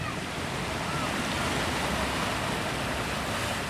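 A steady, roaring wash of sea waves against the Malecón, the old seawall that runs along 5 miles of the north coast of Havana, Cuba. The sound is continuous and fairly loud, with a broad hiss and no distinct individual breaks or voices.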